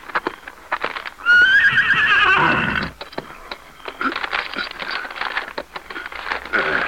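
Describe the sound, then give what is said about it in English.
A horse with a message fastened to its saddle lets out a loud, shrill whinny lasting about a second and a half, followed by a quick, steady clatter of hooves as it gallops off. “Go, Scout. Find Lone Ranger. Go, Scout. Well, there he goes.”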